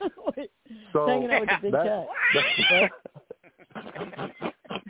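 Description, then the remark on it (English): A person loudly mimics a cat's caterwauling meow, a drawn-out, wavering yowl lasting a couple of seconds, with brief talking before and after. “Hanging out with that big cat.”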